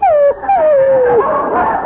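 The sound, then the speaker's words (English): A dog whimpers in two high, sliding whines that fall in pitch, followed by a rougher, breathy yelp-like whine, fairly loud and with no talking. “Oh, look at him, McGee. He wants me to pet him.”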